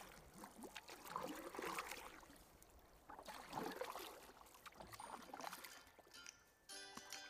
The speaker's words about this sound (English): After sending away the crowds, Jesus got into the boat and rowed off to a different region.